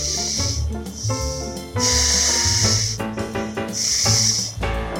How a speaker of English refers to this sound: It was early evening, and I was walking along a quiet stretch of the seafront near the ferry terminal in Old Havana, and there was a man standing next to the water blowing up condoms.